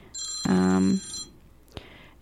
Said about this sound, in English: Okay, so the phone's ringing.